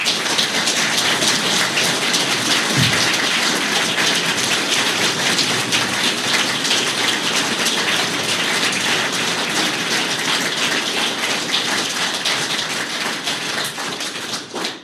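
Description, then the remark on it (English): An audience claps steadily for about fifteen seconds, giving a round of applause to people who lead the regions, a dense, loud wash of many hands that holds even throughout and tapers slightly at the very end. No one speaks. “The stuff that, you know, they've stood up and stepped forward in their communities, and I'd like you all, if you would, to give them a round of applause, please.”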